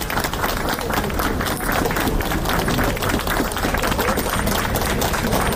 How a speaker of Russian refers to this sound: Около полудня к посольству пришла вдова Алексея Навального Юлия. Ее встретили аплодисментами.